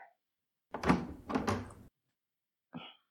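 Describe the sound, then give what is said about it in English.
A door opens with a rattling, scraping swing lasting about a second, followed after a pause by a short, sharp click, as someone arrives at the door. No one speaks. “One second. Someone's at the door.”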